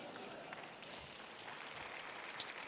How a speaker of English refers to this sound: That's still a very timid clap.